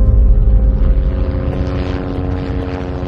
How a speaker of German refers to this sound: Der erste Helikopter landet in Fürstenfeldbruck. Es ist der mit dem Krisenstab an Bord. Vizepolizeipräsident Georg Wolf, Innenminister Genscher, Bayerns Ministerpräsident Franz Josef Strauß und auch Kriminaloberrat Schmidt sitzt mit drin.